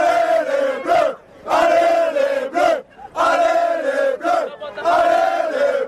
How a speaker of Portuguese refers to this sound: O grito, que significa Vamos Azuis, cantado por torcedores franceses na saída do estádio, podia ser ouvido de longe.